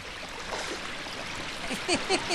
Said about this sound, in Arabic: يا إلهي، ما أعظم هذا الموج.